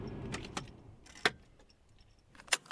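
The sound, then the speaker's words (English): A low car engine rumble dies away in the first moment as the car, parked off the road with nothing but woods behind it, is switched off, followed by quiet and a few bright metallic jingles of keys, two sharper clinks standing out. No one speaks. “Now turn off the engine.”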